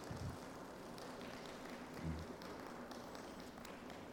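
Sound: audience applauding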